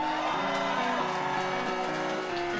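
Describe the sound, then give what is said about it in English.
A crowd cheers steadily, with whoops and shouting voices blended into a loud, continuous roar that holds its level for a few seconds, no single speaker standing out. “Let's get the same level of applause as well on that.”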